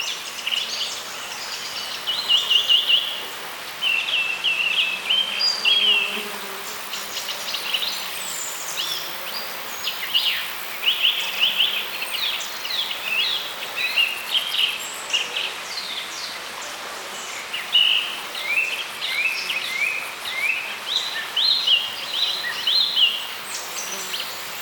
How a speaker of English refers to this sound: to tune in at ear level to the singing of insects and the breeze against the grass flowers